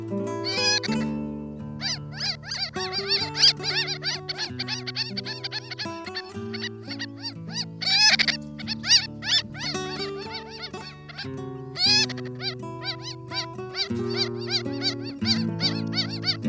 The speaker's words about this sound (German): Das war die Rosenmöwe.